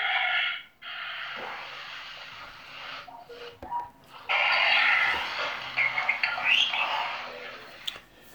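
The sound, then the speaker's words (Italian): Loud breathing through the nose as a seated person performs a rhythmic breathing exercise: long, forceful inhales and exhales in steady succession, separated by brief pauses, with a hissing, slightly snorting quality and no talking. “Interrompo e con calma vado a sedere per eseguire una respirazione ritmica.”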